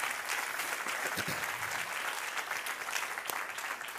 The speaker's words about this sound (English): Isn't that wonderful? Give the Lord a clap offering of praise.